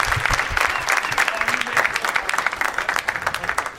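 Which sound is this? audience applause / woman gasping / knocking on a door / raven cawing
audience applause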